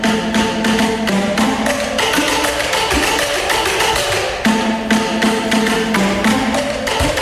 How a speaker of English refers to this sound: something a little different here. It's the Harvard Undergraduate Drumming Corps, or THUD.